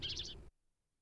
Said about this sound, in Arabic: وغنت العصافير، وعاد الأطفال ينصتون إلى شدو الطيور ويمرحون ويرقصون.